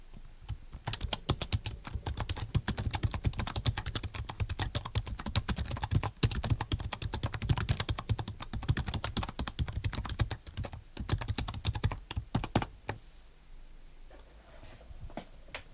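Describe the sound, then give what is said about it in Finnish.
Rapid typing on a computer keyboard, a dense stream of clicky keystrokes for about thirteen seconds before the clatter stops and a quiet room tone remains. “Näin helppoa se on. Yhden napin klikkauksella kuka tahansa voi levittää omia mielipiteitään, arvojaan tai asenteitaan sosiaalisen median ihmeelliseen maailmaan.”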